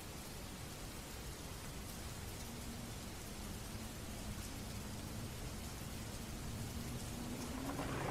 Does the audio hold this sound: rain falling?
yes